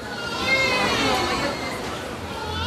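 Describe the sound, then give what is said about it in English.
Crowded hospital maternity ward in the Philippines, overflowing with new mothers, late afternoon: several newborns wail and whimper at once, their overlapping cries wavering continuously over a low murmur of adult voices, steady throughout. “nothing prepared me for the sight of a maternity ward overflowing with hundreds of new moms.”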